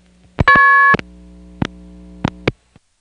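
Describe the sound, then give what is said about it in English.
A payphone coin return signal from TSPS returning coins: a brief on-hook signal and a loud, steady electronic tone, the same as the MF key pulse tone, lasting about half a second, then a low hum broken by several sharp clunks and clicks of coin mechanism, with no talking. “By the way, this sound is TSPS returning my coins, or trying to return any coins that might be there.”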